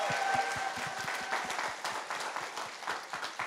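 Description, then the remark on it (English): A church audience claps steadily for the ushers, many hands producing dense, rapid applause at an even loudness throughout, with a faint tonal hum running beneath it. “Let's clap for the ushers.”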